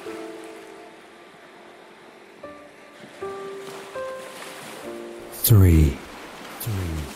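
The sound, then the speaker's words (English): A steady wash of ocean surf rolls softly in the background beneath gentle sustained musical tones, with a voice briefly speaking near the end. “four, allowing the sound of the waves to calm your mind.”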